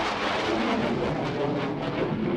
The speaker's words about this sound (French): Pas d'explosion à l'horizon, mais un avion militaire qui a franchi le mur du son. C'est ce qu'ont expliqué les autorités.